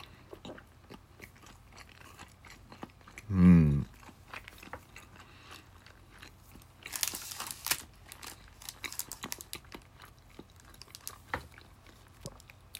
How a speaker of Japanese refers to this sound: それでは、いただきます。咀嚼音がしますんで、ご注意ください。